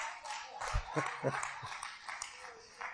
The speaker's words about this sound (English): Come on, give God a big hand clap of praise. Come on now, on the phone, I don't hear you clapping. Come on now.